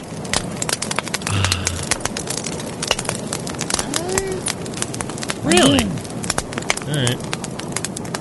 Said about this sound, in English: It was actually a bonfire.